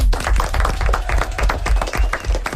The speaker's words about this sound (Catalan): Un aplaudiment.